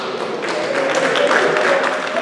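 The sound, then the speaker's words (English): A crowd cheering and applauding at Chris Hani Baragwanath Hospital in Johannesburg, South Africa, as the country's first coronavirus vaccines were administered; a steady dense wash of clapping and raised voices that stays loud and lively for the whole short stretch. “Cheers and applause today in Johannesburg, South Africa, where the country's first coronavirus vaccines were administered.”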